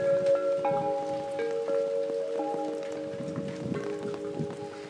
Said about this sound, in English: Don't you love the sound of my wind chimes? I love these big, deep wind chimes.